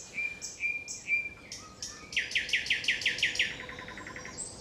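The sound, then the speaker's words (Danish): A bird, not a nightingale, sings close by: a few clear whistled notes, then a rapid series of bright, evenly spaced chirps in a loud trill, with no voices. “Okay, det er virkelig tæt på. Jeg kan lige optage den igen. Det er ikke nattergalen, det her.”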